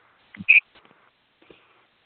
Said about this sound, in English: Sounds like there's a cricket on the line with this. There might be. I'm in a basement.